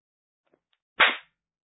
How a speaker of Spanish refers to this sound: La cachetada que me dio me aturdió. Me zumbaban los oídos, me dolía la cabeza.